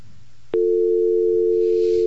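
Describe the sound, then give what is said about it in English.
An odd telephone tone comes through the line during a call to a Chinese food restaurant: after a faint hum and a sharp click, a loud, steady electronic note holds unbroken and monotonous to the end, with no voices. “That's the funniest ring that I've ever heard a phone have.”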